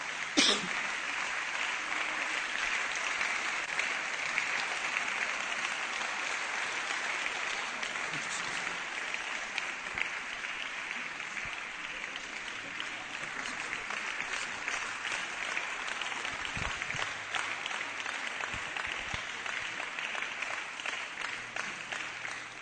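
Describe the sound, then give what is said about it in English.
A large church audience applauds steadily for over twenty seconds to welcome God's servant, a dense, sustained wash of clapping that fills the room at an even loudness, with an occasional cough or shout breaking through. “So let's celebrate God's servant.”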